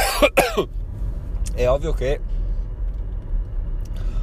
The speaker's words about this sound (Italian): è ovvio che devo tossire.